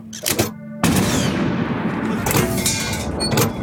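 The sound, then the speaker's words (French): Heavy artillery fire from a single 75 mm cannon, fired by Leclerc's forces at the Koufra fortress in the desert to mimic a whole battery: a sharp blast, a short pause, then a loud booming report that rolls into a sustained, roaring rumble of further shots and echoes, with no voices. “Et donc, il va donner l'impression avec un canon de 75 mm qu'il a, en fait, c'est pas qu'un canon qu'il a, c'est toute une batterie.”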